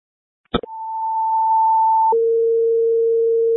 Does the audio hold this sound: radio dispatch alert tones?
yes